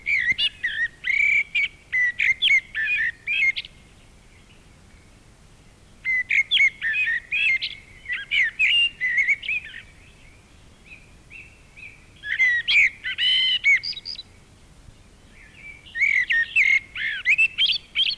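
A blackbird sings alone in clear phrases of warbling, chirpy notes, delivered in bursts of a few seconds separated by brief quiet pauses.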